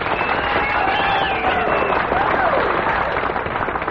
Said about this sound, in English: Friends, let's have a big round of applause for our good friend and guest, that handsome lad from East Tennessee,